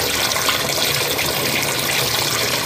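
Water runs steadily from a tap in Port Moresby, Papua New Guinea, in a continuous, hissing stream, loud, with no pauses and no voices over it.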